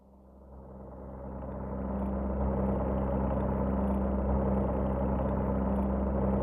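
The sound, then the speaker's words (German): A pilot's propeller airplane engine drones steadily, swelling in volume over the first couple of seconds and then holding a loud, continuous low hum with no voices. “Des Fliegers Gespräch mit seinem Motor.”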